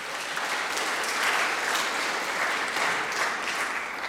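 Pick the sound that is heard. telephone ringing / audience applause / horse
audience applause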